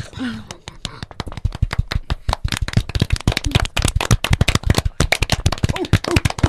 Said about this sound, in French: chouette de vous avoir et même je vous applaudis.